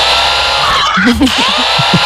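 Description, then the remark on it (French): A power drill whines loudly and steadily for about two seconds at home while a new IKEA wardrobe is being assembled, its high buzzing tone wavering slightly, while a voice talks underneath. “Bah chez moi, je monte ma nouvelle armoire IKEA.”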